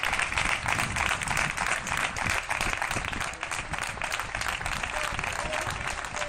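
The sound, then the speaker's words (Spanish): Sustained applause from many people clapping on balconies and terraces for health workers at 8 in the evening, a dense, continuous crackle of claps with no pauses, steady and fairly loud throughout. “Todos los días durante meses salíamos a aplaudir a los sanitarios a las 8 de la tarde, desde los balcones, las terrazas.”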